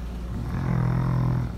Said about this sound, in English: She probably was scared that she would be sucked into whatever you were inhaling as you snored.